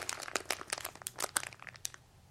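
paper being crumpled

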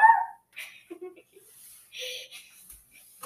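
dog barking

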